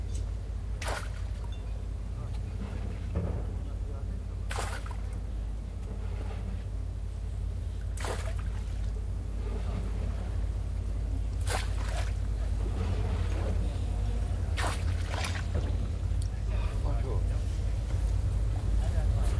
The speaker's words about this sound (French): Le son des bateaux.